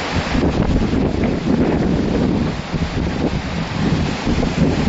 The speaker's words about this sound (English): When storms arise, this is not even a storm. This is just wind. This is the Sea of Galilee being on a windy day.